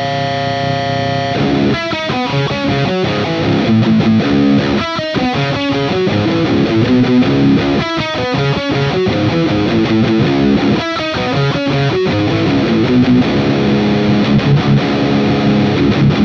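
Heavy distorted electric guitar, played through a Neural DSP amp plugin preset for big riffs, chugs through a series of loud, chunky riffs with crunchy valve-style saturation, punctuated by brief palm-muted stops, played alone.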